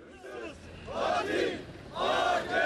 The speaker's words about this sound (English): A crowd of people marching down a street in Ankara as Turkish authorities face accusations from citizens angry over the attack.